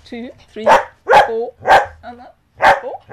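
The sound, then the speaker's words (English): A dog, Jasmine, barks four times, loud, sharp barks at an irregular rhythm, with high whiny yelps and whimpers filling the gaps between them. “And Jasmine was helping with the bark in the back. She's very vocal.”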